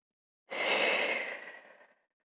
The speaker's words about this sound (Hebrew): נשימה.